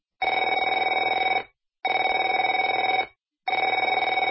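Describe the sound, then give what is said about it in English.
A telephone rings in three long, steady bursts separated by short silences, each ring a bright, trilling tone with a fast, buzzy warble. No voices accompany it. “Afraid to answer it?”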